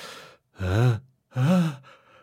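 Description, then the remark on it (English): A person acts out a sneeze: a breathy intake, then two loud voiced bursts with a wavering pitch, trailing into a soft breathy tail. No other talking is heard. “Achoo! Bless you.”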